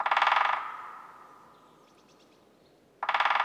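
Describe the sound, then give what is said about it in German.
A woodpecker drums on wood high in the treetops in two quick bursts of rapid knocks, each a fast, sharp rattle, separated by a few seconds of quiet with faint background sound. “Es ist ein dumpfes Klopfen, das die Anwesenheit eines wunderschönen Vogels verrät.”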